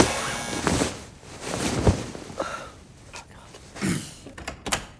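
Door sounds, a series of sharp thuds and rattles spaced irregularly over a few seconds, with faint breathy vocal noises in the background.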